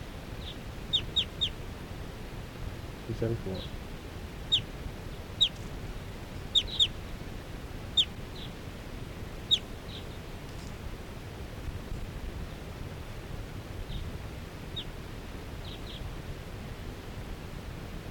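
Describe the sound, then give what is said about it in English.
A flock of four wild birds, about to take off, calls in bursts of short, sharp, high-pitched chirps, clustered in quick runs and then spacing out, over a steady background hiss. “And the wild birds, four wild birds in the flock are calling.”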